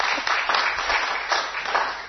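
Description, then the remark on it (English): A church audience applauds steadily for a couple of seconds for a woman joining as a member, a dense wash of many hands clapping at once, continuous with no voices standing out. “Yeah, give her a clap.”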